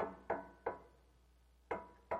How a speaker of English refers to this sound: Do you hear him knocking? He is knocking at the door of your rented motel room.